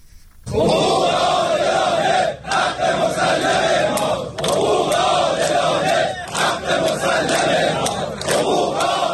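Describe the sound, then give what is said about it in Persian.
A large crowd of protesting workers in Iran shouts and chants demands for their rights together, loud and sustained, with rhythmic surges and brief pauses between phrases over about nine seconds. “سال هاست کارگران در ایران فریاد حق‌خواهی می‌زنند و از شکاف میان مزد و هزینه معیشت می‌گویند.”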